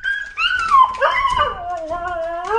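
A friendly, several-year-old dog whimpers in a drawn-out, high-pitched whine whose pitch wavers and slides downward, then rises again near the end, fairly loud and alone with no talking.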